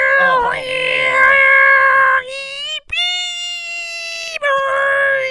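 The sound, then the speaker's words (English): A voice imitates a fax machine's transmission screech: loud, sustained, shrill warbling tones in several abrupt segments with brief breaks, shifting pitch between sections over about five seconds. “The most distinctive sound in the world. The fax machine.”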